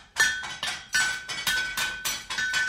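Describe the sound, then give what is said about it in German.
Hammering in the wagon-maker's workshop of Joseph Haydn's father in the village of Rohrau, where carriages were built: about eight sharp metallic blows in a steady, slightly uneven rhythm, each with a bright ringing tone that fades before the next strike. No voices. “Mit diesem Geräusch ist der kleine Josef Haydn aufgewachsen.”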